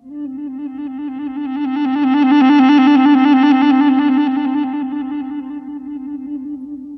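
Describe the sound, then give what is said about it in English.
A sustained electric guitar tone played with an Ebow trills rapidly between two notes, swelling gradually in from quiet to loud and then fading back down, with no voices. “Fade in and out of a trill.”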